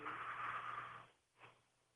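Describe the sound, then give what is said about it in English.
A long, raspy snoring breath from a female caller in Hershey, Pennsylvania, asleep on the phone line during the radio show Coast to Coast AM, comes through a thin, tinny line, followed by a shorter, quieter snort a moment later, with a faint steady hum underneath and no talking. “I think someone's snoring.”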